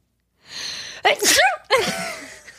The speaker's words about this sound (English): Wait, I'm going to sneeze. Nope, it's totally gone. It's 100% gone.